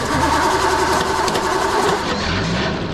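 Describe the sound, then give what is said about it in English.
A small engine, connected to an axle to drive a conveyor, sputters to life and settles into a steady, loud running drone, with no voices over it. “The Chaos crew have connected the engine to the axle that'll drive their conveyor.”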